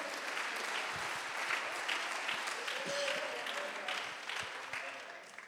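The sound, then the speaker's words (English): An audience claps their hands unto the Lord in a loud, continuous wash of applause lasting several seconds, with faint voices mixed underneath before it starts to ease off at the end. “Oh, would you clap your hands right now unto the Lord.”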